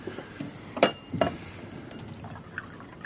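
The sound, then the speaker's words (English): Two bright glassy clinks ring out in quick succession, followed by a soft, steady trickle of liquid being poured into a glass. No one speaks. “You pour me a drink.”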